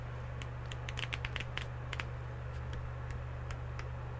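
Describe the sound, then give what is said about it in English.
Book pages being flipped, a quick irregular run of crisp papery snaps and ticks, fairly quiet, over a steady low hum with no one speaking. “I'm going to edit those turning page sounds into all the other books because I want to make it seem like I own the books.”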